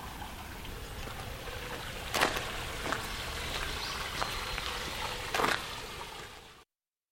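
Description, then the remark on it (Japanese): A small stream, the Aizome River, about one metre deep and one metre wide, flows and trickles steadily beside the path where someone is walking, a continuous watery hiss broken by a few brief splashing bursts, with no voices present. “で深さが1メーターぐらいかな、幅が1メーターといったような小さい小川が流れております。”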